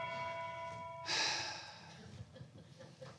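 A clock bell's sustained metallic ring hums steadily for about a second, then gives way to a sudden breathy rush, like a sharp gasp or exhale, followed by quiet room noise.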